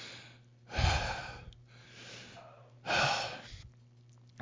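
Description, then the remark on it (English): Two loud, drawn-out breaths, each a long raspy rush of air lasting nearly a second, spaced about two seconds apart; deliberately exaggerated, heavy panting into the mic, imitating an obscene phone caller talking on the phone. “I actually started to make myself fucking get lightheaded, fucking talking like that and breathing like that.”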